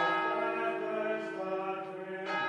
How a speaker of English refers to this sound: And the first bell calling the monks to prayer is rung at 4 o'clock in the morning.